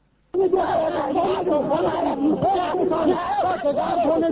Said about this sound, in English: Hundreds of Kashmiri protesters shouted anti-government and anti-police slogans as Indian Deputy Prime Minister Lal Krishna Advani visited Nadi Marg village a day after gunmen massacred 24 Hindus.